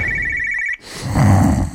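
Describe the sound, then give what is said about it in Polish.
An alarm clock rings with a steady, high electronic tone for under a second, then cuts off abruptly, followed by rustling noise and a low murmur. “Co masz? Budzik.”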